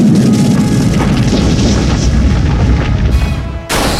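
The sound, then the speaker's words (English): A loud, sustained rumbling boom with heavy low-end roar and crackling texture fills the whole clip, cutting off abruptly near the end before a brief burst of hiss: the video game attack effect of Kragalum using the move Mudslide. “Select an action for Kragalum, attack. Choose a move, Mudslide. Let's try this Mudslide out.”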